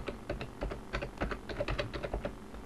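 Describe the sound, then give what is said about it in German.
Quick, uneven keystrokes clatter on a computer keyboard as an admin password is typed, a dozen or more taps in short bursts with no one speaking. “Ich gehe auf Anwendung, Software hinzufügen, entfernen oder führe den Befehl pwrot aus, gebe das Admin-Passwort ein.”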